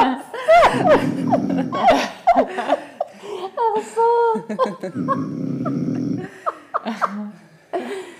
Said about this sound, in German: Das ist mein schnarchender Mann. Ein sanftes Schnarchen. Aber ich finde, das klingt total behaglich.